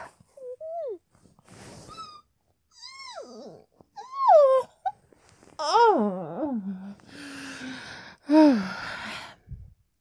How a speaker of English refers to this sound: I yawn like a normal person, that. It doesn't sound naughty.